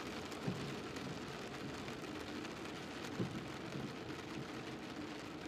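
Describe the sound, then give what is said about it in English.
Steady rain falls in a dense, even patter, moderately loud, with a couple of slightly heavier drops standing out. No one speaks. “Enjoy the rainy weather.”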